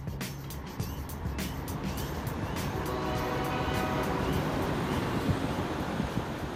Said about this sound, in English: It's mid-morning at the Tray Pack Container Terminal at the Port of Los Angeles. Here at the gate, trucks enter a loading area.